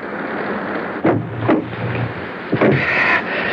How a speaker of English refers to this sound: I'll close the door and come around the other side.